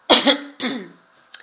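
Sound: throat clearing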